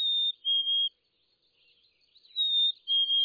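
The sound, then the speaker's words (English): A black-capped chickadee's sweet, whistled song: two clear, pure notes, the first slightly higher than the second, sung twice with a pause between. No other sounds. “Black-capped chickadees sing a sweet, whistled 2 to 3 notes, the first a bit higher.”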